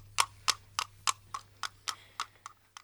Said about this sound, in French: Mais dans son dos, un bruit de sabots. C'est l'âne qui se sauve.